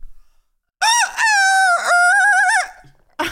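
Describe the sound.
A person imitates a cockerel's crow with one long, loud, wavering call rising and falling in pitch for nearly two seconds, preceded by a brief lead-in note, with silence around it.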